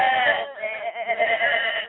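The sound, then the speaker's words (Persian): A voice imitates a sheep's bleat: one drawn-out, wavering "baa" lasting about two seconds, fairly loud, with no other sounds around it. “گوسفند گفتن به.”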